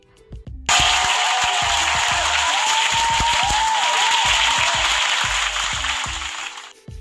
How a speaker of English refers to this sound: Round of applause for being a stand-up motherfucker